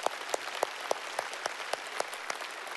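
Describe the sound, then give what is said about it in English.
Church audience applause: a dense, steady wash of clapping with sharper, evenly spaced claps standing out in a regular beat, about three per second. No one speaks. “Yeah, let's applaud that.”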